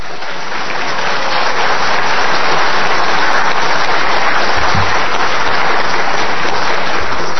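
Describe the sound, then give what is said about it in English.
A crowd applauds steadily, a dense wash of many hands clapping that swells up at the start and holds loud and even throughout, with no voices heard. “And I really should be clapping for you and for whoever made that happen for me.”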